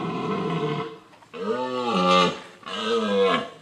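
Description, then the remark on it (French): A red deer stag bellows during the rut: three loud, deep, drawn-out roars, the first long and hoarse, the next two rising and falling, with no talking. “On va écouter le brame du cerf, allez.”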